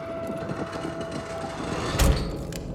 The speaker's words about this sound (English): He grabs the door handle and pulls. The door opens easily and they quickly enter the building one by one. The door shuts behind them.